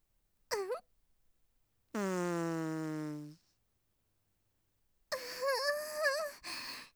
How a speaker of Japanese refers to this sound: 最高。オナキュバスのおならは特に臭いけど、君ならしっかり興奮してくれるって思ってたんだ。